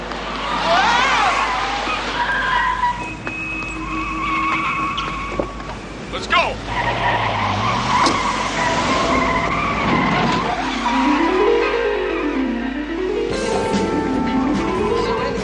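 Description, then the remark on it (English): A car revs and pulls away with loud, sustained tire skidding and squealing as someone drives off in another person's car, engine tones rising and falling, while a voice briefly speaks over the noise. “What are you doing? That's my car.”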